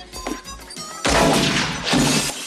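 A few small clicks and thumps, then a sudden loud crash bursts out, a sustained shattering clatter with a second surge of breaking debris before it cuts off.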